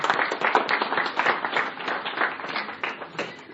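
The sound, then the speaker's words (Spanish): Many people clap steadily together in applause for a fellow speaker, a dense, continuous patter of many hands for a few seconds without anyone speaking. “Un aplauso al compañero.”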